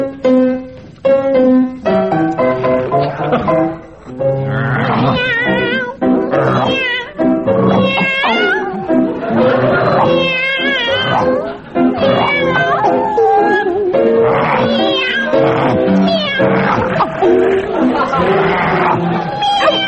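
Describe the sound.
Two people, a team in a game-show round, sing a song entirely in animal noises, one meowing like a cat and the other barking and howling like a dog, loud and continuous with a rhythmic, melodic rise and fall.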